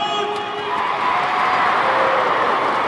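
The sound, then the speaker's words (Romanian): A stadium crowd of children cheering at a football match while the teams warm up, in a sustained, loud, high-pitched roar that holds steady and swells slightly toward the end, with no individual voices standing out. “Auziți ce pot face acești copii și mai sunt încă pe atâția afară.”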